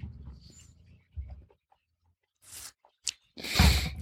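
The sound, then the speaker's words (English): Sipping of Glenlivet whisky: a few short, wet slurps and a longer breathy exhale near the end, with soft low mouth sounds before them and no talking. “I'll do one more puff, one more sip.”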